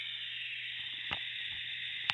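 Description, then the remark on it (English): A dense, steady chorus of cicadas drones continuously in the bush, a bright high-pitched buzz, with a faint low hum beneath and two sharp clicks. “I'm in the middle of the bush. You can hear all the cicadas around me.”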